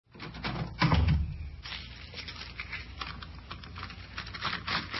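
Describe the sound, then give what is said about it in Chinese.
A door is handled: a heavy wooden thud and rattle early on, followed by a few scattered knocks and clicks against a quiet background, no voices; a woman is opening the door of her house to let two visitors in. “好，我就来开门啊。”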